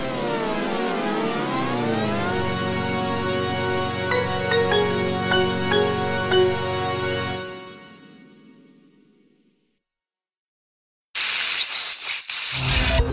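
Crackling radio static hiss with warbling, sweeping tones, steady and fairly loud for several seconds before fading to silence, then a short, harsh burst of hiss returns.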